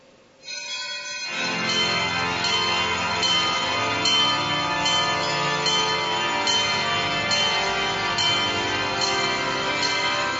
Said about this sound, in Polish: Po 40 dniach skupienia, wyciszenia, radośnie bijąc dzwony, wychwalając Boga, chwała na wysokości Bogu.